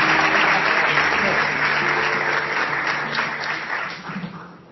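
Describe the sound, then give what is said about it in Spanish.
Sustained audience applause for a woman receiving a special mention at an award ceremony, a dense crackle of many hands clapping at steady loudness that gradually thins and fades toward the end, with no one speaking over it. “Un fuerte aplauso para ella, menciones especiales, categoría a la gestora audiovisual,”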